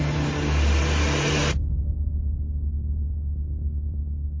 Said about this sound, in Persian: جیم بلند فریادی از تعجب زد: طوفان! طوفان شن!